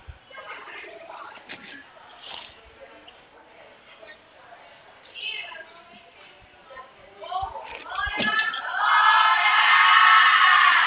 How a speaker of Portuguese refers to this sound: Pra gritaria, né? Segunda-feira o pessoal tá animado.